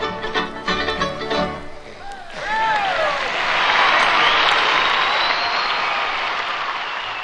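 A band's final notes ring out and stop, then an audience bursts into loud, sustained applause, dense steady clapping with a whistle or two, lasting several seconds.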